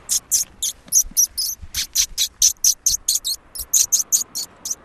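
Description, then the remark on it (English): An ornithologist pishing during a bird survey in a park, voicing rapid, breathy hissing 'pish' bursts that imitate a small bird's alarm call to draw small birds out of hiding. About twenty sharp, high, fairly loud bursts come in a steady quick rhythm, with no talking. “So we call it pishing, and basically it sort of simulates an alarm call for small birds.”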